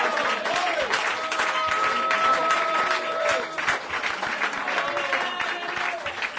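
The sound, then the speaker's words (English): An audience at a church service gives the Lord a hand clap, in sustained, dense applause, loud and steady throughout, with a few raised voices and cheers mixed into the clapping. “Give the Lord a big hand clap now.”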